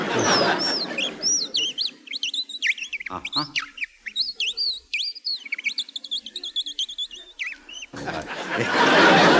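An Audubon Bird Call, a small handheld whistle, squeaks out rapid, twittering chirps that mimic birdsong, fairly loud, running for several seconds in quick uneven bursts between brief rustling noise at either end.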